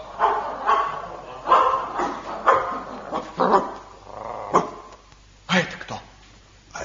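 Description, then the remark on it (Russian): A dog called Sharik growls and barks in a series of about eight sharp, loud barks at an uneven pace, with rough, rumbling growls filling the gaps between them. “Кот и собака помогут нам.”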